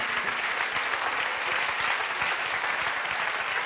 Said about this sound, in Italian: C'è un bel applauso a Mario, mamma mia.